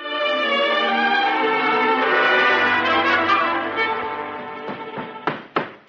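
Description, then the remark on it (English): A sustained, swelling musical chord fades out, then three sharp, loud bangs land in quick succession as someone hammers on a wooden chair leg, trying to get it to stay on the chair. “It doesn't seem as if I'm going to be able to get that leg to stay on there.”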